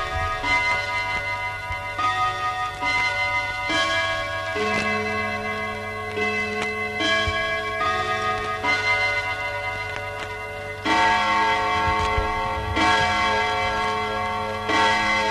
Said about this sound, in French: L'horloge sonne 11 heures.